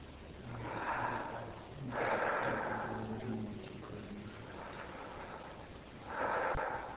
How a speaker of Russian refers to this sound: Теперь давайте попробуем некоторое время подышать чуть глубже обычного.